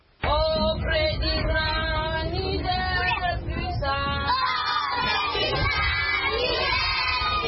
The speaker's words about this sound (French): À l'entrée de la ville de Bosso, impossible de rater l'école ni les cris des enfants qui récitent leurs leçons. Depuis octobre dernier, 1000 écoliers ont repris les cours dans cette ville symbole de l'insurrection de Boko Haram depuis 2 ans au Niger.